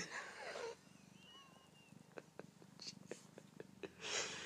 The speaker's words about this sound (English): I am petting a cat. He's meowing and purring and nuzzling and mauling me.